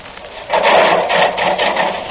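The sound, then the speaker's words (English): A motor saw is started after a brief quiet moment and bites into a log being run through it, giving a loud, steady rasping drone with a slight pulsing rhythm and no voices. “start the saw going.”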